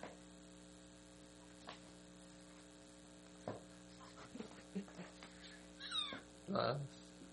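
A cat meows a few times in a video being played, while someone feeds it: short, scattered calls, the last ones louder and more drawn out, over a steady low electrical hum with faint murmuring in the background.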